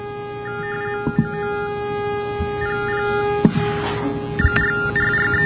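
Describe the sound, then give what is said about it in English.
Electronic data tones from a battery-powered pocket telephone terminal for the hearing impaired: a single pitch chirps in quick irregular bursts, sounding only for one bits with silence for zeros, over a steady electrical hum, with a few sharp clicks, moderately loud. “And I'm going to let you hear what one of these things sounds like. This is a pocket terminal, battery-powered.”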